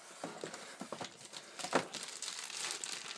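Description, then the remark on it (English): Busy plastic crinkling and rustling, a run of crisp irregular crackles and swishes as a plastic bag holding a power supply is handled and opened while unpacking a box, with no voices. “If I open that box up, there's black cable with a like a DIN type connector, and there's a power supply type thing in a plastic bag.”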